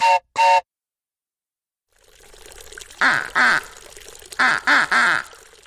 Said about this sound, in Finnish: Hei vaan, Pipsa tervehtii lammen ankkoja.